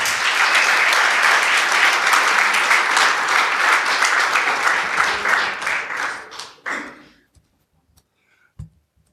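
Loud, dense audience applause with many overlapping claps, holding steady for about six seconds before tapering off into a few scattered final claps and quiet.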